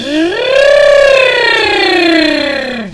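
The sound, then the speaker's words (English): A single voice imitates a siren, sliding its pitch up and then slowly back down in one loud, sustained glide lasting a few seconds. “Like do a siren and stuff. Oh yeah, and going like this.”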